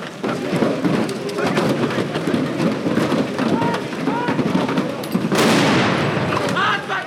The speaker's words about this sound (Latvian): Bruņoto spēku virzienā sāk lidot malkas, pagales un citi priekšmeti, notiek dedzināšana un atskan šāvienu troksnis.